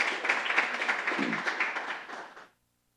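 An audience applauds with a dense, steady wash of many hands clapping at once, holding fairly loud for a couple of seconds before thinning out and stopping.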